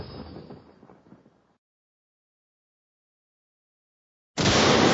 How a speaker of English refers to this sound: The roof rose up volcanically. Then an explosion shook the building. The first silvery lightning bolt slashed down at the Imperial Palace.